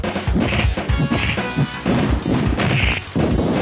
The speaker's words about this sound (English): Now, this is the Genesis version. If this sounds ridiculously like something Capcom might make, well, I got good news for you. Listen to this punching, even.